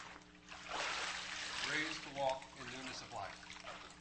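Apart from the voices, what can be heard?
water splashing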